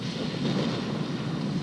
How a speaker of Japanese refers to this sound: この音も、うわー、すごい音、勢いがすごいですね。土石流の前触れ、地鳴りが聞こえます。